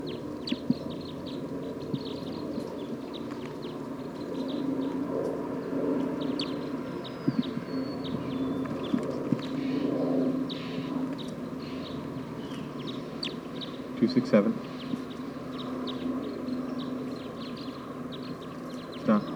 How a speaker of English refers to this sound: So recording a wild bird just arrived on the scene. I don't know what call type it is.